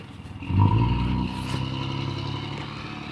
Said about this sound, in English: A truck just came driving by again.